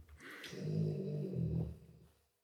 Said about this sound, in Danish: Hvis nogen var i tvivl om, hvad den lyd var, så er det, fordi jeg passer en hund. Hunden, der snorker.